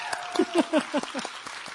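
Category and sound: crowd, audience clapping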